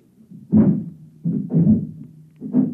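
Heavy footsteps, sounding like many men in boots, come in at the front door and thud in a slow, steady rhythm: three deep booming clusters of stomps, each with a low rumbling undertone, loud and with no voices.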